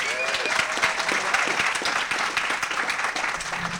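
A crowd on a boat applauds steadily for a few seconds, dense overlapping clapping at a fairly loud, even level, with faint voices mixed in beneath it.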